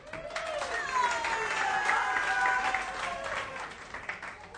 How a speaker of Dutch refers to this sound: En u hoort al wat mensen op de achtergrond juichen, zo meteen blijkt waarom.